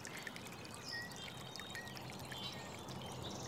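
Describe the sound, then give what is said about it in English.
Water flows and trickles below a bridge, where a nutria swims, in a steady, unbroken wash of sound, with faint, thin bird chirps calling now and then over the top. No one speaks. “We've got just the sweet furry head of a nutria doing donuts in the water below our bridge.”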